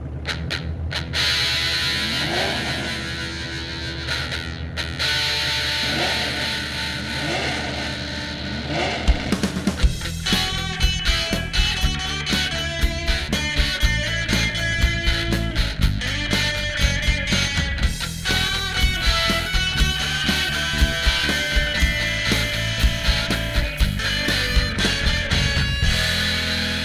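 Car-show style theme music, composed during the peak of car reality shows: rising and falling engine-rev sweeps open the piece, then a loud, driving rock-style track with steady pounding beats takes over and plays to the end, with no talking.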